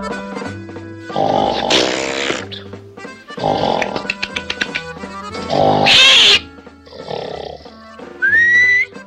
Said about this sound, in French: Ah oui, j'ai oublié de vous dire. Je ronfle. Mais c'est rien, vous n'aurez qu'à siffler, je m'arrêterai.